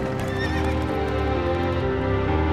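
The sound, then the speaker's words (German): Horses with a wagon, bought by Professor Van Helsing, whinny with high, wavering cries early on, while hooves clip-clop in a steady rhythm over a dense, continuous rumble. No one speaks. “Professor Van Helsing hat Pferde und einen Wagen gekauft.”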